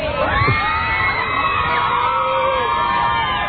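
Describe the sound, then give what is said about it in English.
A large crowd of young women screaming and shrieking continuously at high pitch, a dense, loud wall of overlapping voices with no pauses. “I like it when somebody's, like, screaming at him to say something.”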